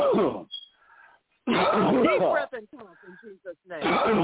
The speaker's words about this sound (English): Deep breath and cough in Jesus' name. Come up and out. Come up and out in the name of Jesus. Deep breath and cough.